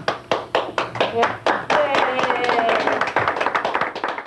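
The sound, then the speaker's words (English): A small group of jurors claps in a quick, steady rhythm while several voices cheer and shout over the applause, right after reaching a guilty verdict of aggravated murder; lively throughout. “Right after the cheering, one of them breaks down crying.”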